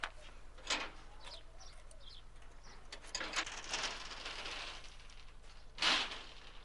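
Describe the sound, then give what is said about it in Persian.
A person whistles in imitation of a nightingale, a warbling whistle delivered in a few short, breathy bursts spaced apart over faint background hiss. “خب پس وایسا اونجا سوت بزن. باشه، سوت بلبلی.”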